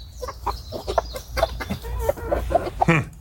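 A chicken clucks in a quick, uneven series of short clucks, ending with a louder, rising squawk, with no one talking.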